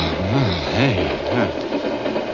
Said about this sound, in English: Hey, this thing's moving. Sure, friend. It's okay. You're in a freight car.